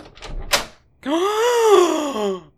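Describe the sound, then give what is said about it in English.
A short rattle of a latch or handle, then a long creak that rises and sags in pitch for over a second as a door swings open. No one speaks. “Soon the door swung open and”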